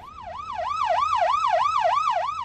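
A police car siren wails in a fast, repeating up-and-down yelp, loud, from a police car following behind a car in a 35 mile per hour zone, with a low rumble of traffic underneath and no one speaking.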